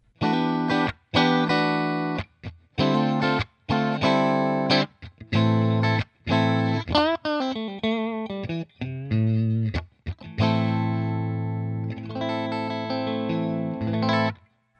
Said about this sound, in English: there's the bridge and middle pickups, and they're hum canceling because of the wiring.